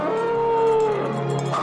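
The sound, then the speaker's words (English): An eerie, ghostly wail of singing, one long sustained howl-like tone that holds steady, then wavers and slides lower, loud with no talking over it. “That singing sounds like a ghost.”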